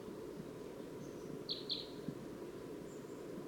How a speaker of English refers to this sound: A wild one, perched in a tree here. Yes. Perched in a dead tree just beyond the net. Going over to 259 now. Wait, the V-shaped bird. That's 259 on side. Stop. Recording that wild crossbill. Here it comes. It's coming down.